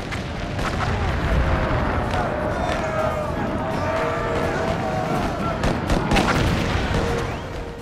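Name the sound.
artillery cannon bombardment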